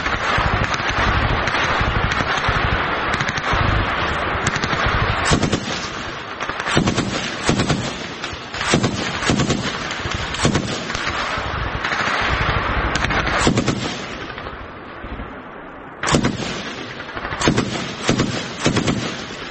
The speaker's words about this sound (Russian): Украинский боец работает из пулемета М249.